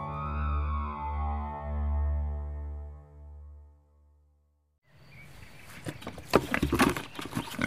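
A low, sustained humming tone fades out, then a burst of rough pig grunting and snuffling at morning feeding, at 6:30 in Moisei, a small village in the Romanian Carpathians, fills the last few seconds, busy and uneven with no talking.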